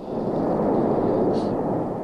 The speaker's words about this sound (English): Well, the big booms that we're hearing are huge gas bubbles in the magma that are popping open. They may be 100 feet in diameter, and when they get closer to the surface, the pressure inside these gas bubbles is so great that they blow off the magma